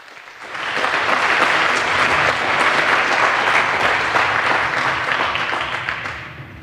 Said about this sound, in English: So give a welcome and a warm applause